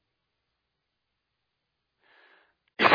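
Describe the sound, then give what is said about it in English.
A single sudden, loud cough from the speaker breaks a long silence at the very end, preceded by a faint breathy intake just before it. “I really need to get a cough button up here, don't I?”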